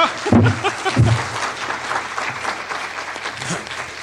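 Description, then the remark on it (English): An audience breaks into steady applause, a dense wash of clapping that holds at a fairly even level for several seconds, with a couple of low thumps near the start. “He wants to applaud. He thinks that's an applause line.”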